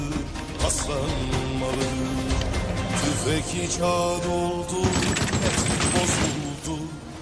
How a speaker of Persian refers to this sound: بخواب بخواب تو زمین. درمت که اینجا شلیک کن، تکون نخوری.